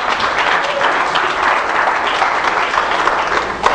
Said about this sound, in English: Let's give Jesus top praise today with a hand of applause.